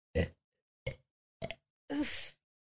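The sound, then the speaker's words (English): A person burps: three short throaty bursts spaced apart, then a longer, drawn-out burp. No talking. “I think I need to like burp or something real quick.”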